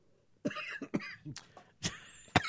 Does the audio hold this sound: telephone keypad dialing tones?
no